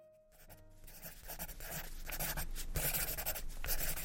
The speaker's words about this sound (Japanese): そして表紙を破ってその裏に鉛筆に唾をつけながら何やら懸命に書き込みました。